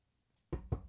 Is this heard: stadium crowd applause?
no